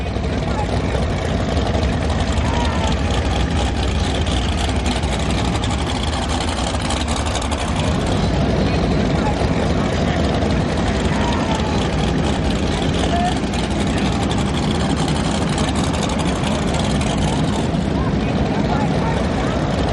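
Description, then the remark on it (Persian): Boat motors drone steadily as boats pass along a canal at Lake Havasu in the United States, a low continuous engine rumble with a constant wash of noise that holds an even loudness throughout. “صدای قرش ملایم اما مداوم موتور قایق‌ها که از کانال می‌گذرند یادآور این است که اوقات فراغت در آمریکا کالایی مغتنم است.”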